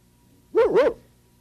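A dog, Bob Dog, gives two quick, small, quiet barks in close succession, fairly soft, with a quiet background and no talking.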